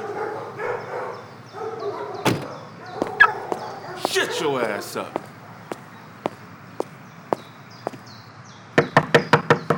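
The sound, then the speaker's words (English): Near the end, a quick series of about six sharp, loud knocks raps on a door, preceded by scattered single taps over busy background noise and muffled voice-like sounds. “Just knock on the door and come in.”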